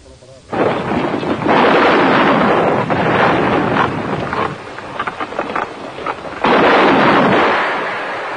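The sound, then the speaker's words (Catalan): Heavy naval gunfire from the Italian Navy cruiser Eugenio de Savoia, firing at night on Barcelona from about 9,000 metres in 1937, pounds away in two long, loud roaring bursts, dense with crackling blasts and rumble, separated by a brief lull before the second barrage erupts and slowly fades. “Era el primer bombardeig que sofria la ciutat i no trigarien a produir-se els atacs de l'aviació.”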